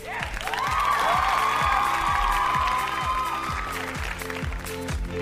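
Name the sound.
applause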